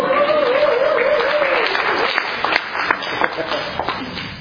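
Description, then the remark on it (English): A crowd at a meditation retreat applauds steadily for the cooks, organizers and helpers, a dense wash of many hands clapping at once, with a brief tonal voice or cheer early on before the clapping thins toward the end. “Even the teddy bears, maybe we should give them a round of applause.”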